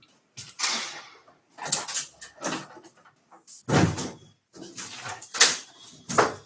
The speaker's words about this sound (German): Hörst du diesen Lärm von draußen? Soll ich das Fenster zumachen? Ja, der klingt nicht so elektronisch, ja. Ja, ich mache das Fenster zu, wenn ich tue da irgendwas hämmern.